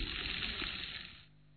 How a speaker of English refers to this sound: We have from Babas Bandara, which means it's an Indian type. But yet, let's take some sand and just pour it in. Interesting the sound.